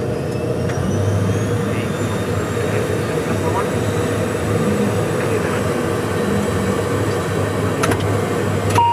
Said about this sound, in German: Die beiden sind dann noch die Checkliste durchgegangen und haben anschließend die Triebwerke gestartet. Das klingt echt interessant und ist nicht gerade leiser.